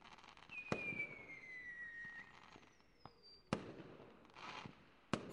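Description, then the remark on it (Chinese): Fireworks: a few sharp bangs spaced seconds apart, with thin whistling trails gliding downward between them over a soft background crackle. “哎，要不要对烟花许个愿？”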